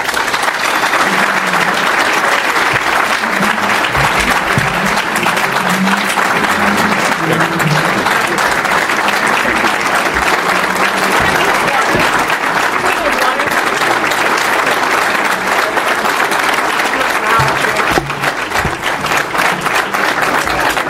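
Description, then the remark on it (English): Sustained audience applause in a room following a speech, a dense, steady wash of many hands clapping at an even loudness, with a faint murmur of voices underneath throughout. “I was just going to let them keep clapping.”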